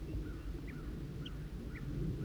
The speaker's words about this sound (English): Chitter by the female.